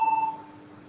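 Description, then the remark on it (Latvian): A parliamentary voting signal, called before a vote on a deputy's proposal, sounds as a single bright electronic beep lasting about a third of a second, followed by a lower, steady tone that lingers faintly. No one speaks. “Lūdzu zvanu.”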